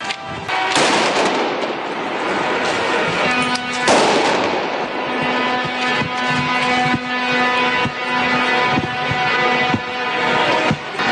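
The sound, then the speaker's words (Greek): Street clashes in Brussels between protesting farmers and police around the building where EU agriculture ministers meet, with fires lit and objects thrown: sharp, explosive bangs like firecrackers burst out over a dense, constant roar of crowd noise, with a steady droning horn tone running through the turmoil. “Πεδίο μάχης λοιπόν, ακούμε τους ήχους από τις συγκρούσεις,”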